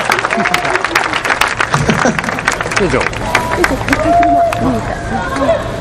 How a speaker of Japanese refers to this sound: あ、大きな拍手、イエーイ。